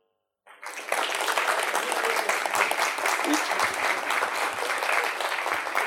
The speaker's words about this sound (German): Und durch kurzes Klatschen bestätigen, wer was gekriegt hat und wer am lautesten, bei wem am lautesten geklatscht wurde, kriegt dann das Buch. Also erstmal für die Dame hier vorne.